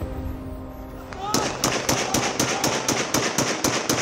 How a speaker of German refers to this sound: Noch immer hallen Freudenschüsse und Jubel durch die Straßen von Damaskus. Der Sturz des syrischen Diktators Assad weckt Euphorie bei all jenen Menschen, die unter ihm in über 20 Jahren Gewaltherrschaft großes Leid durchlebt haben.